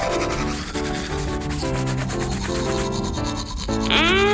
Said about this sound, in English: Okay, pirates. Everyone have a toothbrush? Toothbrush case. Ready, set, brush!